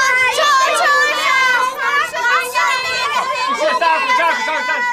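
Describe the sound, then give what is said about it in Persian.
A crowd of children's voices overlap loudly and continuously, many kids talking at once in an excited, high-pitched jumble as they answer a question about how a story ends, with no single voice standing out. “شلوغ بگید نمیفهمم.”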